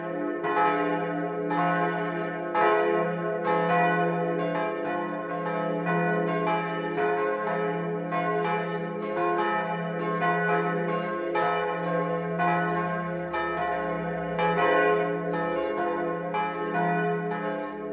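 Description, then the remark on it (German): Several church bells of the baroque pilgrimage church on the Dreifaltigkeitsberg near Rimbach, Lower Bavaria, ring the midday peal together, full and continuous, their overlapping strikes repeating at a steady, fairly quick rhythm with rich sustained tones. Loud and clear, with no voices. “Das Mittagsläuten kommt heute von der Wallfahrtskirche Heiligste Dreifaltigkeit am Dreifaltigkeitsberg bei Rimbach in Niederbayern.”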